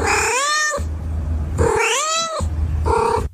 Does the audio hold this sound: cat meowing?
yes